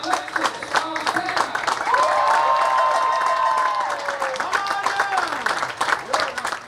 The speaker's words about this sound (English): So exciting to see all these people and familiar faces just like cheering us on and clapping for us after what we did.